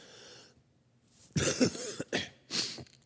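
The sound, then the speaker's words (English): A man coughs several times in quick succession right into his microphone, loud and harsh, three or four bursts over about two seconds after a brief quiet breath, with no talking. “My wife said on Wednesday when I coughed right into my mic and it just kind of blew people's ears off.”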